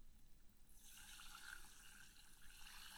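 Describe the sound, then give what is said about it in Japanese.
A steady fizzing hiss of carbonated juice starts after a brief quiet moment and keeps bubbling evenly to the end, with no voices present. “シュワシュワっていい音ね。”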